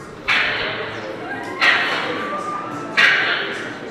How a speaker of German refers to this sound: Wenn ich mich umdrehe, kann ich auch hören, zum Beispiel an einer Station, wie laut wir Menschen eigentlich für Wale im Meer sind. So laut hier, wenn ich den Knopf drücke, zum Beispiel sind Rammungen im Meeresboden für Windräder.